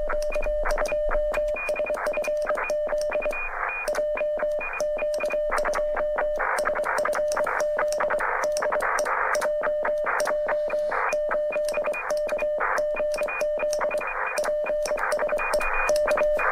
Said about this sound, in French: Voici un radioamateur que l'on entend transmettre en morse dans son local, et par la suite on va entendre la réponse de son correspondant.